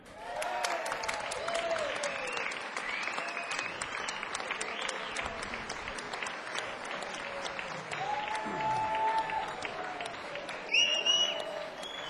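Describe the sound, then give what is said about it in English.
An audience applauds Eddie Turner steadily for about twelve seconds, a dense wash of clapping with a few cheers and whistles rising near the end. “d'applaudir Eddie Turner.”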